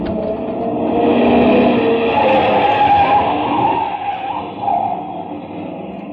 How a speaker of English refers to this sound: Hey, that car coming from the farmhouse, it's heading right off the road